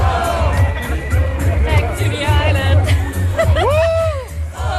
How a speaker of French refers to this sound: Plus de 5000 personnes s'étaient rassemblées dans l'après-midi de samedi devant la chancellerie à Vienne.